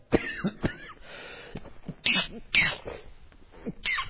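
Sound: coughing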